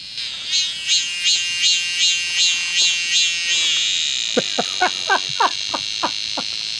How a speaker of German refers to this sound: Was ist das? Das ist krass, oder? Das ist eher wie ein Mixer oder ein Auto oder weiss nicht was. Das ist eine asiatische Zikadenart.